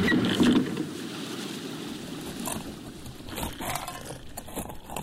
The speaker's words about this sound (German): Ich darf auf seinem Motorboot mitfahren auf seine eigene kleine Insel.